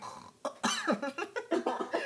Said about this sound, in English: I just tried to make a snoring sound and I choked.